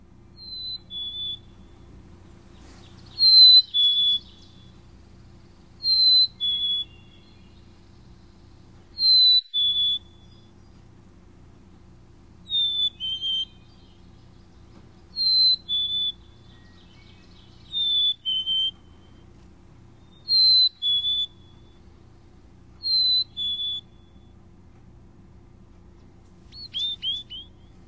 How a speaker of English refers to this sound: Well, why don't we hear the black-capped chickadee's "Hey Sweetie" song, and here it is.